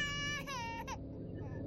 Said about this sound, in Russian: Где-то далеко, на другом конце корабля, за многими дверями отчаянно плакал, надрываясь и захлебываясь, какой-то ребеночек. Маленький, совсем маленький, годик, наверное.